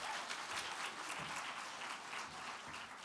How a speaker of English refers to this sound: Can you guys give her a round of applause?